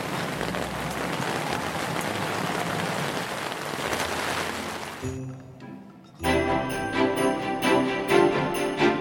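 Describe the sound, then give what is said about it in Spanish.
Light rain patters steadily on leaves for about five seconds, a dense soft crackle, then drops away and is replaced by bright tonal music with no voices. “El toc-toc de una ligera lluvia que revienta en su verdor.”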